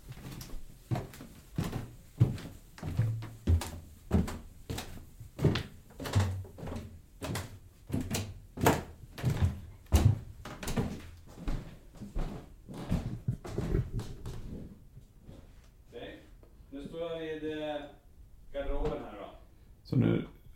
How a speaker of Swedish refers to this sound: Men det är så här, när du går upp för trappen nu så kommer jag också stå här så kan ni få höra hur det låter att gå i trappen.